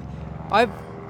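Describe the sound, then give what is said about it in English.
A low, steady engine drone of an airplane passing overhead over New York hums throughout, with a short burst of voice rising briefly over it midway. “It's just another plane over New York.”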